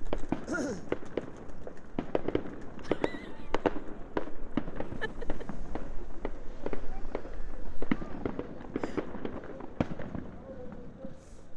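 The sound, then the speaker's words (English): Distant fireworks crackle and pop continuously, with irregular sharp bursts spread across the whole stretch, some louder than others, while faint voices murmur in the background. “That sure is actually a firework, you see.”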